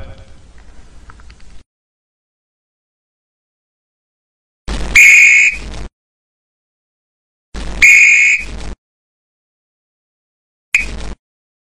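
A coach's whistle blasts three times at football practice, loud: two piercing, trilling toots about a second long, then a shorter final one, after a brief stretch of muffled noise and silence.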